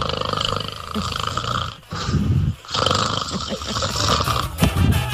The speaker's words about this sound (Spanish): ¡Ya! Por ahí ya está roncando.